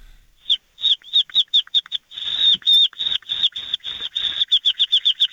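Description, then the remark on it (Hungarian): Someone imitates a baby chick with rapid, high-pitched peeping cheeps, a quick run of short chirps merging into a sustained trill before breaking back into fast peeps, fairly loud. “És akkor még van kis, kis csirke. Na, na gyorsan egy kis csirke.”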